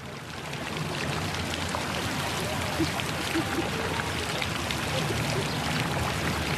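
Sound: water spraying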